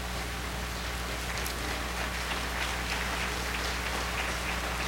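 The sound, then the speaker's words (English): A church audience claps steadily in response to a morning sermon, a dense, even wash of many hands patting together with no clear individual beats, holding at a moderate level throughout without any voices on top. “I take that to mean by the clapping of your hands that something she said this morning spoke to you.”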